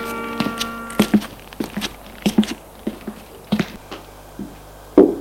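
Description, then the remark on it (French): Knocking on a door: dull, hollow thuds arriving in loose pairs and singles across several seconds, moderately loud, with no voices. “Frappe à la porte.”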